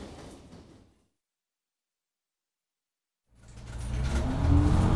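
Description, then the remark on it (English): A bus to Oxford closes its doors and pulls away: a short burst of hissing noise, a pause of near silence, then a loud engine rumble that swells and rises in pitch as the vehicle accelerates. “The bus to Oxford leaves at 6:40, so I should make it with time to spare.”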